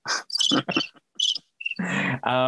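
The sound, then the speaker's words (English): A cricket chirping sound effect played from a soundboard through the Rode Connect app: a rapid series of short, bright chirps followed by a couple of longer, fuller bursts, loud with no talking. “Or listen to crickets.”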